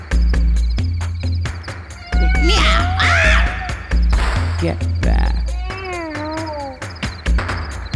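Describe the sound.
A cat meows and yowls in several long, wavering, drawn-out cries over a steady low throbbing hum, with a person briefly speaking between the calls.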